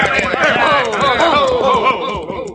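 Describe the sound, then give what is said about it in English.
Horse hooves clip-clop in a steady rhythm beneath overlapping voices as a rider sits on the horse, the hoofbeats partly masked by the loud, continuous talking. “Get on off that horse and I'll beat the living daylights out of you.”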